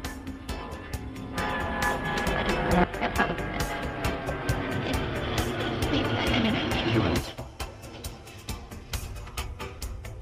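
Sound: airplane flying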